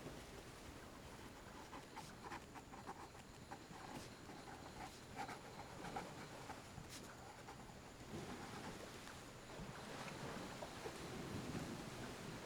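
A steady, low hum of distant boat engines blends with a continuous wash of warm foam breaking on a hot sand beach on Phu Quoc, Vietnam, soft and far-off, with a few faint clicks and no voices.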